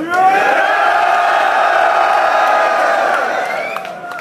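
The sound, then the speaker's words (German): A loud crowd in Berlin cheers and shouts continuously for the fourth title match between two MCs, a dense roar of many voices with whoops and yells rising over it, holding steady before easing off slightly at the end. “Macht mal Lärm für unser viertes Title-Match hier!”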